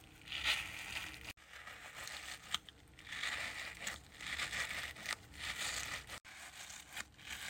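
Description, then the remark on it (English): Crunchy, crackling squishes as a stress ball, just taken out of its packaging, is squeezed repeatedly in a squish test, a dense gritty crinkle that swells and fades in uneven waves with a few brief pauses between squeezes. “Ooh, this one's crunchy.”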